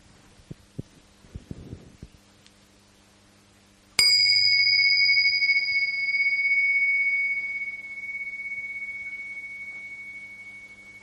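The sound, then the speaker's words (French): A few soft thumps and knocks, then a single meditation bell is struck, ringing out clearly with a bright, sustained tone that slowly fades over several seconds, with no voices. “Voilà, je vais commencer par un son de cloche qui va nous inviter à juste manifester notre pleine présence maintenant.”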